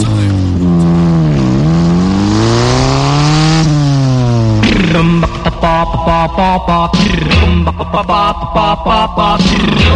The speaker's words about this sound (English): Motorcycle. Well, I drive around on a red motorcycle. Every day after school, I'm a motorcycle fool.